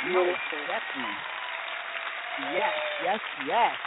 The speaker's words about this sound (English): Let's once again give Anaya another round of applause. I think it's well deserved.